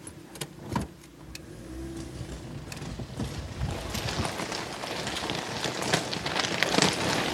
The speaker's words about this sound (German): Gut, dieser Eisenbahntunnel ist Backstein gemauert, ist schnurgerade, sagte schon 1,1 Kilometer lang. Und wir haben es geschafft, mit dem Auto, mit Mörchi reinzufahren. Erst am Anfang, ja. Ja, wir fahren jetzt mal ein Stück.